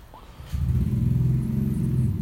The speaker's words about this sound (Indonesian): Aduh, ada suara motor masuk ya.